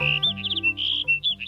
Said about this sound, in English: And this is a sagebrush sparrow singing from atop a big sagebrush. As their name suggests, sagebrush sparrows live in dry, open shrublands.